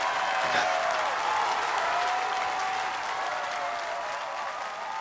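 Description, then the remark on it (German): Sustained audience applause welcoming footballer Lena Oberdorf as a guest on the show Power Brains, a dense steady wash of clapping at constant loudness throughout, with a faint murmur of crowd voices underneath. “War dir genug Applaus jetzt direkt am Anfang?”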